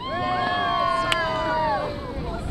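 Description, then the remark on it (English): A whale-watching boat's steady engine drone mixed with wind and water noise on the Caribbean Sea off the Dominican Republic, while some 50 passengers from around the world chatter, their voices overlapping throughout, as they search for humpback whales. “Some 50 visitors from around the world lean over the rail of the whale-watching boat Puerto Mia.”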